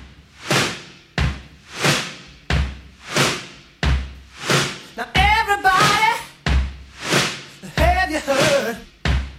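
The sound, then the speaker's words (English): A door slams shut again and again in a steady rhythm, each heavy bang sharp, with brief vocal sounds mixed in between some of the slams. “Just shut the door.”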